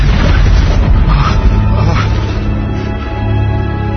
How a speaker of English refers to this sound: Oh my God! There's been an explosion. There's been an explosion.